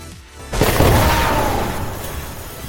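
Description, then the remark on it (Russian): A loud explosion of a robot erupts suddenly after a brief quiet moment, a deep booming blast that rumbles and slowly fades with crackling debris over a couple of seconds. “Произошел взрыв, от которого роботу оторвало руки и ноги.”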